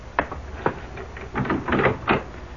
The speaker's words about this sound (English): You go back to the kitchen. I'll open the door.